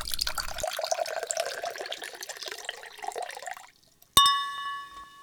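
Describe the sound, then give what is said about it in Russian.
Liquid pours steadily into a glass for several seconds, its gurgle rising as it fills, then stops; a bright clink of glass rings out clearly afterward and fades. “Ну шо, браток, наливай.”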